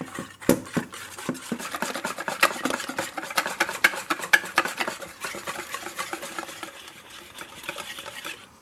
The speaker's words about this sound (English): Now what you're going to have to do is use your whisk to blend everything mm-hmm. until it's really smooth and frothy.